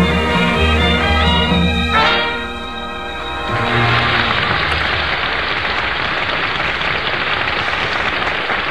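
A held musical chord rings out and fades, then the audience of the Vim's Vitamin Show in 1944 breaks into dense, steady applause that swells and continues loudly until the end, with no one talking.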